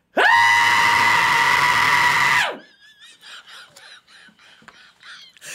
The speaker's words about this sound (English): So how good is your shriek today? Can you really shriek? I can still scream pretty loud.